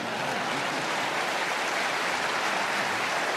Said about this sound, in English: Hold it. No need to applaud.